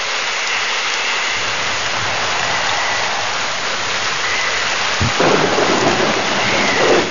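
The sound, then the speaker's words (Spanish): A wind and rain storm roars steadily with dense, hissing rainfall, then surges louder in the last couple of seconds as a stronger gust sweeps through. No voices are heard. “Caminó contra el viento, la lluvia, la noche y la nieve.”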